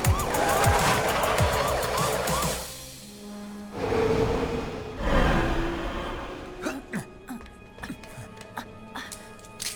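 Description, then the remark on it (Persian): A car skids along a road with bursts of screeching tires and rushing engine noise, loud, followed by scattered clatter and thumps as the noise settles. “توی روسیه ماشین سواری تو جاده هست.”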